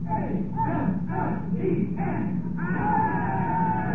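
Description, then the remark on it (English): A gallery audience watching an operation cheers and shouts loudly and continuously, with overlapping yells and a sustained, rising call of voices toward the end. “The gallery broke out in cheer.”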